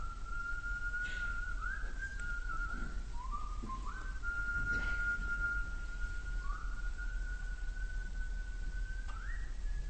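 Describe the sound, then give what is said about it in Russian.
A young man on a theatre stage at the start of a performance whistles a slow melody of long, sustained notes that step up and down in pitch, clear and steady over a constant low background hum, with no talking. “Один начинает насвистывать мелодию, а другой зримо как бы перехватывает и подхватывает этот свист, перенимает его изо рта в рот и продолжает.”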